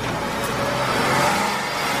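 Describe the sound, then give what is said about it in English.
A car engine turns over and revs as the car starts up, a steady mechanical roar with a whirring tone that rises slightly before settling. No voices are present. “That's my car starting up, by the way.”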